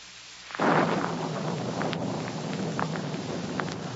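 thunderstorm with rolling thunder

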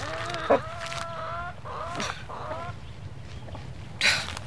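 chickens clucking

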